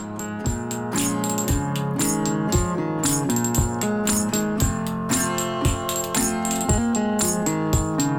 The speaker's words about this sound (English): So is it the banging, the tinkling sound in the background. So it sounds like castanets. Yes, yeah. Very much.